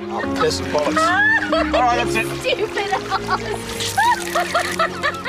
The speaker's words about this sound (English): Bridget and Daniel in separate boats collide.